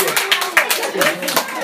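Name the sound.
audience applause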